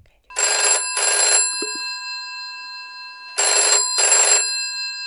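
An old-style telephone bell rings in two pairs of short bursts, a bright metallic jangle with a clear ringing tone, then a pause of about two seconds before the next double ring.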